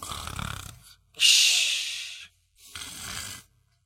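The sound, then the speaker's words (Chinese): In a storytelling performance, a voice mimics someone snoring inside a house: three drawn-out, raspy breaths with short silent gaps between them, the middle one loudest and hissiest, all clear with no other talk. “刚走到屋门口，就听里面有人打呼噜。”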